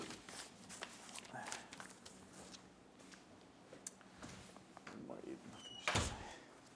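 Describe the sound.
A door shuts with a single sharp thud near the end, preceded by shuffling and handling noises, with faint indistinct voices in the background.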